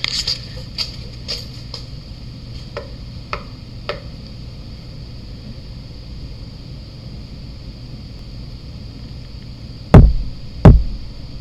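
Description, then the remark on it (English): Two loud, hollow knocks on a wooden support beam land in quick succession near the end, after several faint taps and clicks over a steady low hum. “Here, I'll even show you how easy it is to knock on one of these support beams.”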